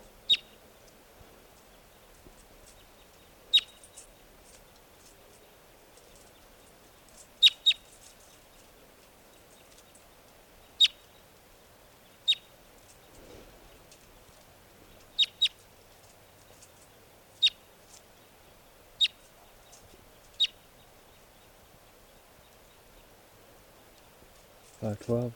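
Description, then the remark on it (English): A wild bird, one of several up in the trees near a net, calls repeatedly, giving about ten sharp, high-pitched chirps spaced irregularly over a quiet, faintly murmuring background, ending with a brief low rustle. “Recording the wild birds are still here, up in the trees near the net. This is one of them calling.”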